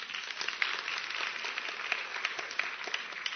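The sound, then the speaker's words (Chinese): A church audience applauds steadily for a few seconds to praise God, a dense crackle of many hands clapping at an even, sustained level with no voices on top. “啊，俾掌声我哋神好嘛！”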